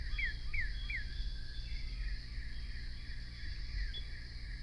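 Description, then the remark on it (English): Many cardinals, up to 8 or 10 at once, sing just before sunrise: repeated clear, downslurred whistles, one in a quick series and others fainter, over a steady low rumble and a thin insect-like hiss. “The particular morning when I recorded this sequence of many cardinals, they were indeed the first birds to sing just before sunrise.”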